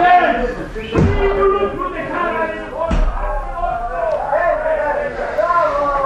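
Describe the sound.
A door is shut with a heavy thud, followed by a second sharp knock a couple of seconds later, both cutting through steady conversation.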